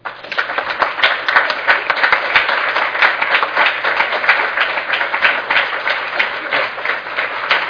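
Sustained standing applause from an audience, a dense crackle of many hands clapping at once, steady and fairly loud throughout with no one speaking.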